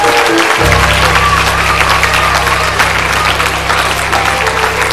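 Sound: audience applause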